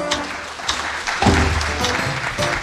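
Audience applause on the show Dulces y Amargos, a dense, steady wash of many hands clapping for a few seconds, with a brief voice or cheer rising through the middle.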